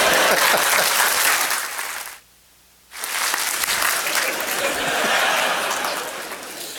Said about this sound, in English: So next time, when you applaud or something like that, when I do this, you stop, right?